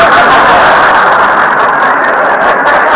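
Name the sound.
train running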